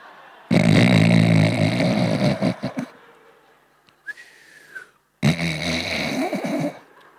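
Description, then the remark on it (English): A voice imitates snoring with two loud, rasping snore-like breaths separated by a thin whistled exhale in between, prominent with no talking. “That call was met by the best fake snoring you have ever heard.”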